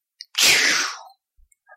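A single loud swoosh: a rush of airy, hissing noise that sweeps downward in pitch and fades within about a second, followed by a few faint ticks.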